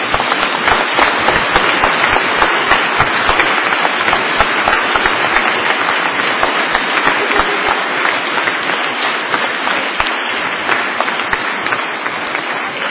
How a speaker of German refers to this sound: herzlichen Dank, dass ihr so schön gesungen habt und dass auch im Kindergarten St. Michael so gut einstudiert habt und auch mit euren Erzieherinnen zusammen. Auch denen auch ein herzliches Dankeschön. Jetzt euch gilt jetzt nochmal dieser Applaus.